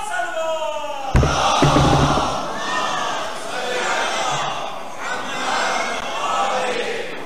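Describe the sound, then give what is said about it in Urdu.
A large crowd erupts in sustained cheering, with dense clapping, shrill whistles and wavering high-pitched ululation rising and falling together, loud and continuous after a sudden start. “حمد خدا ہے ایک الحمدللہ, کیونکہ مجمع تالیاں بجا رہا ہے, سیٹیاں بجا رہا ہے, عربی میں کہتے ہیں ہل ہلا کر رہا ہے.”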